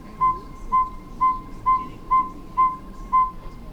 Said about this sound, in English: You hear it? That is an audio lure. So we have a great big huge bullhorn speaker right in the center of our net array. And it is right now playing the breeding song of the saw-whet owl.